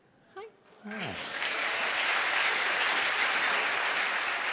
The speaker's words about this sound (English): I did kind of run. He deserves an applause for running.